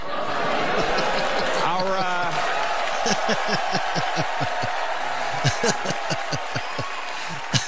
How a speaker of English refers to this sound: A lot of applause. A lot of applause.